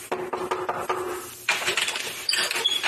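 A quick series of about five or six hollow wooden knocks on a door in the Schwabenland, Baden-Württemberg, in a steady rhythm, followed by a burst of rustling, scraping noise as the knocking stops.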